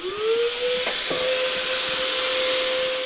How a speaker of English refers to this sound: A hazmat tech fills the patrol car with a disinfectant mist. This should kill any coronavirus within 3 minutes.